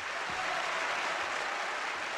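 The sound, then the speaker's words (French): A large theatre audience in Paris applauds steadily during the curtain calls, hailing director Rolf Liebermann's farewell; a dense wash of many hands clapping at once that holds an even, sustained level throughout with no voices. “Au moment des saluts, la troupe et le personnel entraînent gentiment Liebermann sur le devant de la scène et c'est sous un tonnerre d'applaudissements que le patron, comme on l'appelle affectueusement, fait ses adieux à Paris.”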